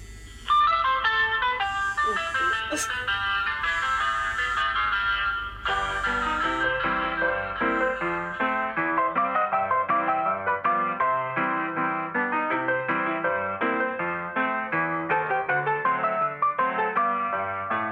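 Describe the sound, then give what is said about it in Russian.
A bouncy ragtime jazz tune plays as a phone ringtone, bright and tinny with a steady, busy melody running for the whole stretch at a loud, even level, with no talking. “И я вам хочу сказать, что вот даже если сейчас мне позвонить по телефону, то вы тоже услышите джазовую мелодию.”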